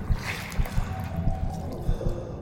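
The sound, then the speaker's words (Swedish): Water sloshes and churns as something moves around in it, with irregular low surges every half second or so over a steady wet, rushing background. “Och det är stundtals ett skakigt ljud. Som att något gör kraftiga svängar i vattnet.”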